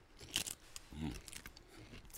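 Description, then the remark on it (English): A tortilla chip loaded with guacamole is bitten with one sharp crunch, followed by softer chewing crackles and a brief muffled hum from the eater. “The crunch on air just sounds amazing.”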